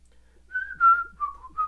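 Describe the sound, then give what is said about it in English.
A short fragment of a whistled folk tune: a clear, sustained high note sliding into a few shifting notes, whistled alone at moderate loudness with no talking. “Hummable, indeed. Whistleable tunes.”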